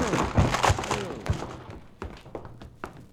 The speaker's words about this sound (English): Come on, help me bust this door down. Only too glad to oblige, Counselor. All right. One. Two. Three.